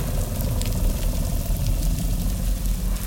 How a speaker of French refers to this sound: même au ralenti, comme ça, au point mort en surface. C'est inimaginable. Le volume de son produit par un moteur est complètement incroyable. Et on se demande même comment les poissons restent aussi stoïques en dessous avec un tel barouf en surface.